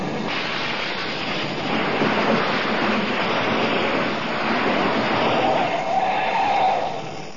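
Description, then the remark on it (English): A loud, sustained vehicle roar with a harsh, noisy screech rising near the end as Colonna's truck pulls up and brakes hard, then cuts off abruptly. No one speaks. “Colonna should be here with his truck any minute. Hey, here he comes now.”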